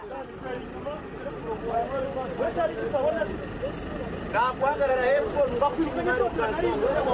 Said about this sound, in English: This is one of Kigali's busiest bus stations. The public service vehicles picking up and dropping off passengers here are popularly known as coasters.